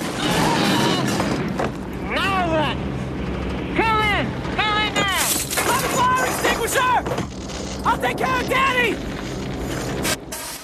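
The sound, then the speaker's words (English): A loud explosion in the waist of a plane while a gunner shoots rips through constant roaring engine noise, followed by crackling bursts and rising, falling whistling tones, with muffled voices underneath. “As he bends to pick it up, an explosion.”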